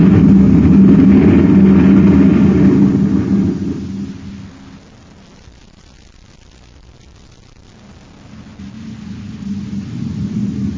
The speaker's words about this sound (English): Did you see him whiz past us? It's a maintenance truck.